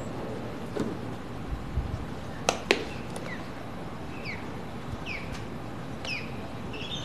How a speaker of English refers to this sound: Oh, the birds have come alive. Mm-hmm. You think they're out early morning, but I think they like to come out in the afternoon here, as I can hear them in the background. They're hanging out in the shade.